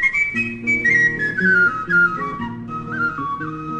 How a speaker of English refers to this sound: Now, where's that tin whistle of mine?